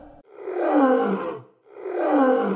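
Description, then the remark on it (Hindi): Two long, deep roars from a very big lion that suddenly appears on the road, each swelling and then fading, with a brief pause between them. They are loud and rough, and there is no speech. “सब ने सफ़र शुरू किया तो रास्ते में एक बहुत बड़ा शेर अचानक सामने आ गया।”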